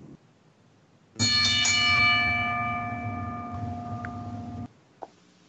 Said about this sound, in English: ring the bell.